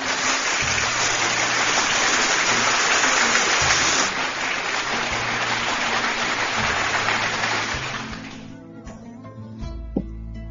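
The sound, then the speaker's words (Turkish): A dense, steady burst of crowd applause after a poem reading, loud and crackling for about eight seconds before thinning out and fading, with a soft low musical tone underneath. “Kocaman bir alkış sana.”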